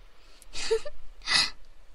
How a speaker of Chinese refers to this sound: 哎呀，求求你了，我真的好想把喷嚏打出来啊！你们这样折磨我，每次在我快要打喷嚏的时候就停止，我已经活生生的憋回去好多喷嚏了，我的眼泪都流出来了，求求你们了，求求你们让我把喷嚏打出来吧。